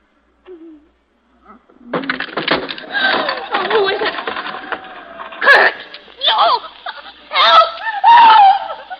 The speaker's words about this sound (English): What made you scream, Mrs. Sander? Well, I was asleep, and something woke me up. I felt cold fingers around my throat.